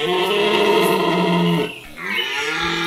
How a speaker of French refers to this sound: Moyen d'expression des cerfs, le brame du roi de nos forêts fascine et en ces débuts d'automne, c'est le moment idéal pour l'écouter car cette période correspond à la saison des amours, des cerfs et des biches.